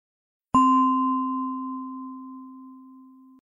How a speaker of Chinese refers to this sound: 好，当你听到钟声时，轻轻睁开眼睛。